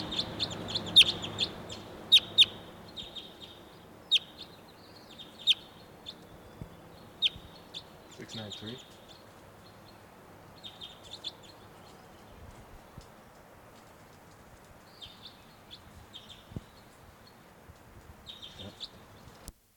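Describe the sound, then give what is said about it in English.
A wild red male crossbill sings while perched in the top of a tall tree, giving bursts of sharp, high, chirping notes in irregular clusters, moderately loud over a low, steady background rumble, with no one talking. “Reporting the wild bird's perched in the top of a tall tree during song now. It's a red male.”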